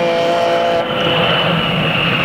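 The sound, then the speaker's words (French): An airplane landing: a loud, steady engine roar with a high whining tone, sustained throughout, with a rough rumbling edge like tires meeting the runway. “L'avion est en train d'atterrir.”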